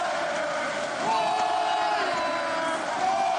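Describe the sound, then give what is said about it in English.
A large crowd of fans at an NBA game screams and cheers in a steady, dense roar that fills the whole stretch, loud, with a slight swell partway through. “So we need all this screaming right here.”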